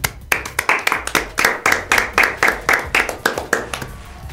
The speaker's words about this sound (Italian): Oh, l'applauso!